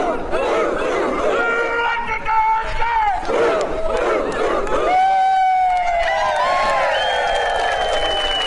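A crowd of many voices, a community group at a group photo shoot, chants and yells a rallying cry together, loud and steady throughout, with long drawn-out shouts that rise and fall in pitch toward the end.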